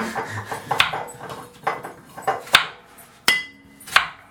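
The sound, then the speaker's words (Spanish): A knife chops an onion on a wooden board: a few loud, sharp knocks at uneven intervals, with softer, quicker taps between them and no one talking. “Yo sigo picando cebolla.”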